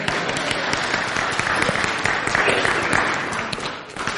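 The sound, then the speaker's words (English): An audience applauds steadily for about four seconds, a dense wash of many hands clapping that holds at an even level before easing slightly near the end. “In first service, we at least got a smattering of applause.”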